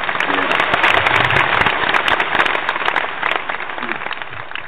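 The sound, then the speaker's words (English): A loud crowd cheering and clapping, played as a sound effect: a dense continuous roar of many voices and applause that holds steady for several seconds before easing slightly at the end. “And if you're not cheering, I mean, if you can't hear it, then let me get them cheers out there right now.”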